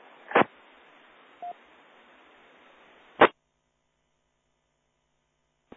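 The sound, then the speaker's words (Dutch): A weak radio transmission: faint, band-limited static hiss for about three seconds, punctuated by sharp squelch bursts and a brief beep, then cutting off into silence before one last click. “Oeh, heeft iemand anders het signaal beter kunnen horen?”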